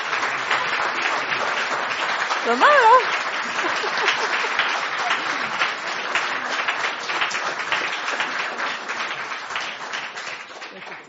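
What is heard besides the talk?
standing ovation applause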